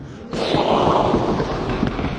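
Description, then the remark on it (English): A group of people joins in a loud, sustained rushing and roaring noise, mimicking a violent storm with their mouths; it starts abruptly and stays dense and steady for a couple of seconds. “And suddenly, there was a violent storm. Can we all make a storm noise?”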